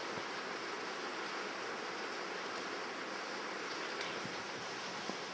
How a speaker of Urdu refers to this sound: نہیں معلوم یہ بارش کچھ کتنی دیر تک چلے گی